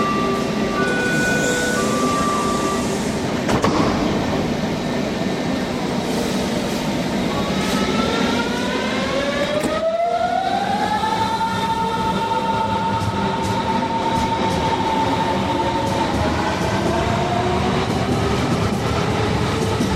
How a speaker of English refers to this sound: It's a typical morning in Berlin. Most people get to their offices and other places by train.